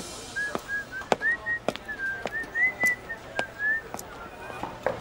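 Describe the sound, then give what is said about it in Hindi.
A person whistles a wavering, mid-high tune in a steady, continuous stream, accompanied by a series of sharp knocks or clicks at irregular intervals. “जी आओ जी आओ, मैंने तो दूर से ही आपकी सिटी सुन के आपके लिए दरवाजा खोल के रखा था।”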